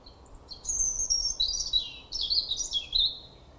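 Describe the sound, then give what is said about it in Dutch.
A European robin sings a thin, high warbling song of quick, varied phrases that tumble one after another without pause, clear against a faint low background rumble. “Het is een roodborst? Ja.”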